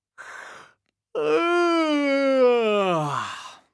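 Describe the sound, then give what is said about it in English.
A big, drawn-out warm-up yawn before singing sea songs: a short breathy intake of air, a brief pause, then a long voiced groan that slides downward in pitch, fairly loud. “Let's have a big yawn to start with.”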